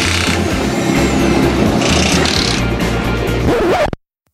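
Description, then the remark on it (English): A loud car engine roars and revs steadily for about four seconds, with a rising whine near the end before it cuts off abruptly into silence. “Car sounds?”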